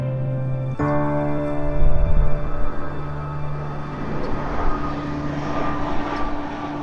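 An ICE Air plane's propeller engine drones steadily overhead across American skies, its harmonic hum rising and swelling with a broad rushing roar before holding at a loud, continuous level, with no voices present.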